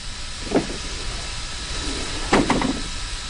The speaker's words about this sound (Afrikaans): Wag. Daar's iemand op die trein. Hy gaan die deur oopmaak.